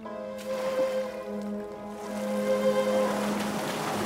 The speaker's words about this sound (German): Der Fährmann folgt und paddelt los.